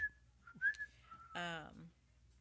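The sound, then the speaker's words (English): Someone whistles a few quick, pitch-shifting notes of an Italian tune, clear, followed by a brief voiced sound over a faint low hum. “Whistling Italian.”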